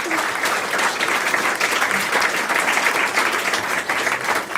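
An audience applauds steadily for several seconds for Maike Schäfer, a dense, even wash of many hands clapping at a fairly loud level with no talking over it.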